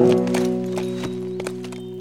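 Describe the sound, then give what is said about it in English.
Horse hooves clip-clop in a loose, uneven rhythm as horses are hobbled at camp to graze, a handful of hollow knocks sounding over a steady, sustained humming tone that runs underneath throughout. “He hobbled the horses so they could graze, and then fixed food for himself and Wolf.”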